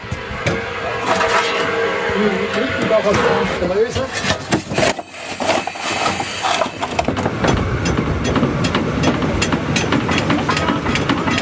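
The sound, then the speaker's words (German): An over-100-year-old coal-fired steam locomotive of a heritage railway in the Zürcher Oberland, Switzerland, runs with a loud, continuous rumble with hissing and irregular mechanical clatter throughout, while indistinct voices murmur in the background. “Die fahren so, wie früher Züge gefahren sind, mit Kohle und mit Wasserdampf.”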